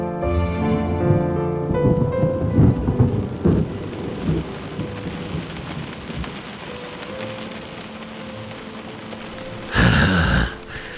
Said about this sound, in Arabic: لن يتوقف هذا المطر أبدا.